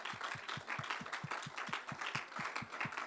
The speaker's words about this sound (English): Let's give Him a hand clap of praise together.